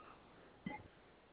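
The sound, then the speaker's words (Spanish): A single short telephone keypad tone of the hash key being pressed during a phone call, beeping once over a low, steady line hiss with no one talking. “Ok, deme un segundo, presione tres veces gato, por favor.”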